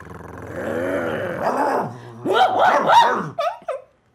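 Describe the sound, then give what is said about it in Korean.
Nine guard dogs snarl and growl, breaking into harsh, aggressive barks as they charge at a group of people, ending with a few sharp yelps. The menacing vocalizations overlap continuously with no talking. “갑자기 개들이 난폭하게 짖으며 달려들자 인간들은 공포에 사로잡혀 혼비백산했다.”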